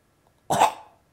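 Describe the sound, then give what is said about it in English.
A single harsh, guttural syllable 'ka', the Arabic consonant qaf, voiced from deep in the throat, fairly loud, sounding much like a short cough, with quiet before and after. “Then you have qaf. ka. Like we have like a ka, like if when you're coughing.”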